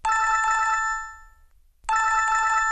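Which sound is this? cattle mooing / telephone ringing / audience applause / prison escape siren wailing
telephone ringing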